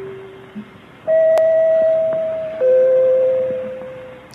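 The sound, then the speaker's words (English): Three hand-struck broadcast chime notes on a GEC Deegan 200 chime set, from a a bandleader's radio program of April 17, 1933: a soft low tone, then a louder higher note that rings out, then a slightly lower note that sustains and slowly fades. No voices. “That is from about a year later, another example of a hand-struck three-note chimes, this time using the GEC of a Deegan 200 chime set.”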